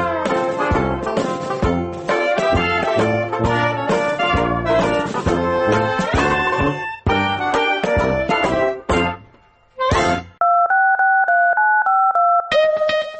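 Telephone dialing tones of a call to a Minsk number that connects to a radio station's answering machine: a dense, rapid run of electronic beeps at a steady loudness, with a brief dip near the end, then a sustained two-pitch tone held for the final seconds. No voices.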